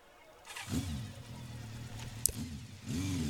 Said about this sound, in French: Ah oui, alors c'est pas moi qui prends la moto, hein, c'est la personne derrière moi. Voilà, des bruits d'ambiance